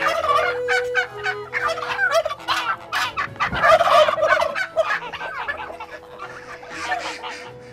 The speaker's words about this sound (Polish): Tutaj słychać panią indyczkę.